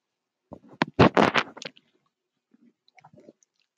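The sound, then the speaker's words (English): Someone takes a sip of water: a quick cluster of wet slurping, swallowing noises, followed after a short pause by a few fainter gulps. No one speaks. “Let that sink in for a moment while I take a drink of water.”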